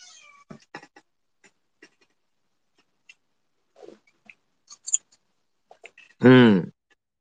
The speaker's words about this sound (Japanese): 泣いとるわ、猫も。猫もよう泣いとるわ。